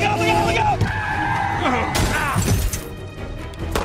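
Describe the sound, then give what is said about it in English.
A loud, busy car chase from a crime film set in Prohibition-era Boston: tires screech and skid in sweeping wails, an engine roars, and a sharp crash with shattering breaks through midway, with indistinct voices mixed into the din. “The Irish and Italians are in a blood feud over the trade in bootleg liquor, and that means gun malls, car chases, and a lot of, you know...”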